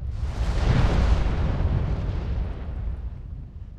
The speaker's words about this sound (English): If the pressure gets bad enough, the magma will erupt out to the surface in a fiery explosion of gas, ash, smoke, and lava.